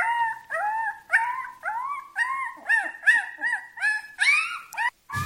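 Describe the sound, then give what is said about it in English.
Wolf pups whimper and howl in a close, steady string of high, rising whines, roughly a dozen short calls overlapping one after another with no talking, ending abruptly. “Supposedly, this is dire wolf pups.”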